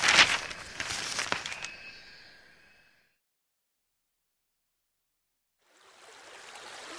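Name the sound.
river stream flowing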